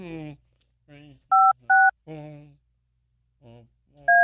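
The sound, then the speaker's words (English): Three loud touch-tone keypad beeps as a phone number is dialed, two in quick succession and a third after a pause, with a man talking in between them. “Your call cannot be completed as dialed. Please check the number and dial again.”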